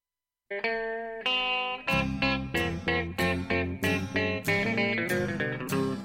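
Instrumental opening of a song: a held electric guitar note, then a loud band kicks in with bass and steady, punchy repeated chords. No voices.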